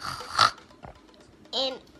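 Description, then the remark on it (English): A child mimics a pig with two fairly loud oinks: a rough, snorty burst, a brief pause, then a shorter, more voiced squealing oink. “I'm a pig.”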